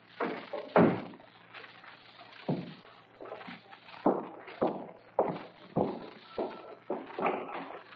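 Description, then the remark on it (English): A door is shut and bolted: a series of sharp wooden thuds and metallic clunks, irregularly spaced, with shuffling movement between them and no voices. “I was just bolting the door.”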